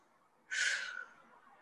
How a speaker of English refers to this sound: Ooh, big yawning.